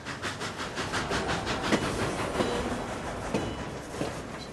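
A train rumbles steadily with a dense mechanical roar, rail cars clattering in a loose rhythm and occasional sharp metallic clanks and squeals rising above the continuous grinding noise.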